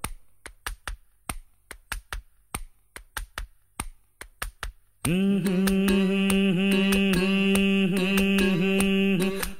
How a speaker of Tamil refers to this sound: டே ரொம்ப தட்டாதடா, தாளம் தட்டுறதுக்கு என் தலையா கிடைச்சது. மெதுவா மெதுவா.